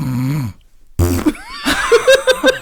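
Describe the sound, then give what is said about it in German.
A voice imitates loud snoring: a low droning breath, a brief pause, then a harsh rattling snort that breaks into several choppy, sputtering bursts. “Und ich habe es gestern liebevoll genannt, du schnarchst halt aus allen Löchern.”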